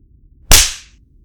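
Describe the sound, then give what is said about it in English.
A single sharp, loud spanking slap cracks out of near silence, a bright smacking hit that fades quickly over a fraction of a second. No voices are heard. “I don't dwell in torture, but spanking is part of my process.”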